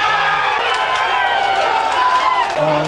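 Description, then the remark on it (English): A large crowd cheers and shouts continuously at the election count for the Dublin North constituency, as GV Wright is announced, a dense, loud roar of many voices with no pauses, the clamor holding steady throughout. “Ladies and gentlemen, as return officer for the constituency of Dublin North, I said the other one was cheering, GV Wright.”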